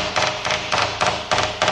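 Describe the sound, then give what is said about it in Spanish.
In a workshop, a small hammer taps a helicopter rotor blade to inspect it, the sound differing with where it is struck: a steady series of about six light, hollow knocks, each a crisp metallic tap with a brief ring, evenly spaced and moderately loud with no talking. “Se hace con un pequeño martillo. Es al mismo tiempo que observamos la pala, vamos golpeándola.”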